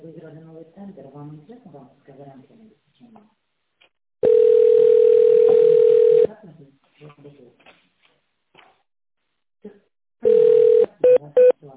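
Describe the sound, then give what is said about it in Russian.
On a phone call to the company Yeniseyprom, a steady, loud telephone tone holds for about two seconds between stretches of talking, followed later by another long tone and a few short tone-mode dialing beeps for an extension number. “Если вы знаете внутренний номер нужного вам специалиста, наберите его в тоновом режиме.”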